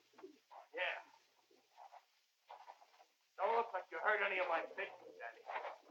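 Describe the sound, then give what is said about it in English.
Pigeons coo in soft, throaty bursts, a few scattered calls at first, then a denser, louder stretch of overlapping cooing in the second half. “Don't look like you hurt any of my pigeons, Danny.”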